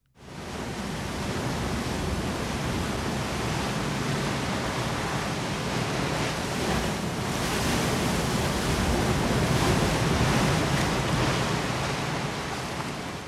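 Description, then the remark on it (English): Steady roar of sea surf washing onto the shore at Aberaeron, a dense hiss that swells slightly in the middle and never pauses. No voices. “The sound of the sea at Aberaeron.”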